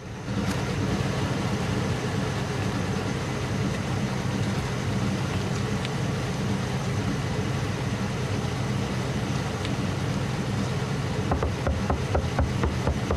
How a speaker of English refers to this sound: The engine is running and the cab windows are misted up. She goes to the driver's door and knocks on the window.